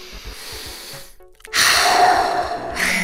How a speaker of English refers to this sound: start by getting them to calm down and use the Swiss Army knife in the mental health toolbox. Deep belly breathing.